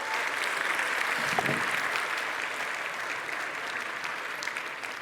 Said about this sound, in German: Ich habe mitgebracht, wir hatten da drüben noch so ein bisschen Kamera, deswegen herzlich einen Applaus für die mobile Kamera.